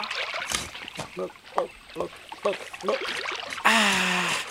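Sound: water trickling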